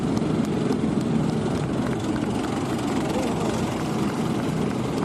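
A loud, steady roar of fighter jets fills the whole stretch, a dense rushing rumble that never lets up, with faint crowd murmur buried underneath.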